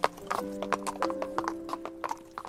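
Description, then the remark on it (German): Steady clip-clop of horse hooves on a hard surface, a horse ridden from Kew to London by the young Crown Prince George in late October 1760; a brisk regular rhythm of sharp knocks with a low sustained tone humming underneath. “Er hatte sich gerade zu Pferd aufgemacht, von Kew nach London.”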